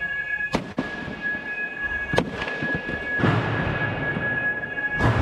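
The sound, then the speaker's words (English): Activists smashing quadcopter drones at a factory of Israeli arms manufacturer Elbit Systems: a handful of sharp, heavy cracking blows at irregular intervals, ringing over a constant high-pitched tone and a rough, clattering background. “From a video released during the trial, you can hear them destroying quadcopter drones of the type that are used to murder Palestinians in Gaza.”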